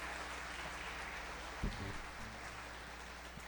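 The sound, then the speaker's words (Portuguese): A church audience applauds the Lord in a steady, dense wash of clapping that stays fairly soft and even throughout, with a low thump partway through and no voices heard. “Boa tarde, vamos aplaudir o Senhor, amém?”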